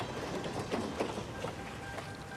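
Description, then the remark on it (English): A train rolls past on the tracks with a steady, dense rumble and rhythmic clatter of wheels, continuous, with no voices; filmed for a TV pilot with actor Dominic standing on the tracks as it passes. “To get that last little piece with the train coming past McNulty, Dominic actually had to stand on the tracks.”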